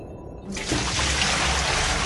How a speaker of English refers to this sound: Cold, rank water hits Nora in the face. It pours over the top of her head.